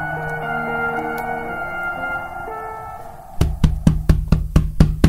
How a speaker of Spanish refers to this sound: ¿Qué sucede que los tres se despiertan? Nuevamente golpes y zarpazos. ¿Quién será el que llama a la puerta?